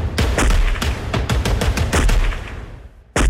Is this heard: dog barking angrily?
no